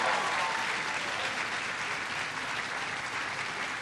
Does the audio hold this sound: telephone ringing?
no